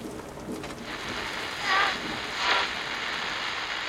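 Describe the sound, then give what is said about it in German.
A steady, dense hiss of heavy rain pouring down in a shower, swelling briefly louder twice in the middle before settling back to a constant rush. No one speaks. “Aus dem Cumulonimbus fallen häufig heftige Niederschläge in Form von Regenschauern, Schneeschauern, Hagelschauern und Graupelschauern.”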